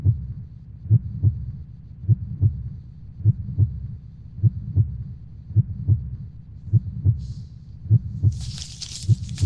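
heartbeat heard

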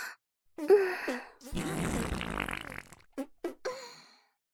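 fart

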